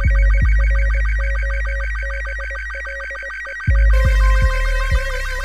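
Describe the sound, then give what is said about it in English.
An electronic alert tone for an incoming Guild transmission rings out in a rapid, warbling pattern of high beeps over low thumping pulses, shifting to a denser, brighter burst of tones near the end. No one speaks. “Incoming Guild Transmission, Bravo, Uniform, Dango, Dango, Echo, Romeo, Foxtrot, Lima, Yankee.”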